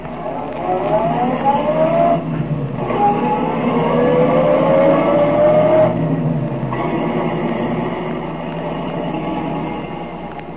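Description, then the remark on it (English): Detective Dick Tracy's car engine revs and pulls away as he drives to Tess Truhart's home, its pitch climbing through a couple of gear shifts, loud throughout with no voices. “We know, but Tracy does not, that Remo lies concealed in the back of Tracy's car while the detective drives to Tess Truhart's home.”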